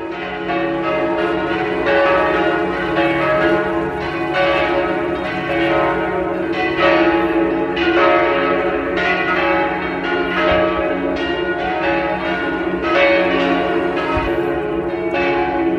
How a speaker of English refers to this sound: I'm going to leave you this season with one of my favourite moments, which was the sound of the bells in Venice on a Sunday morning.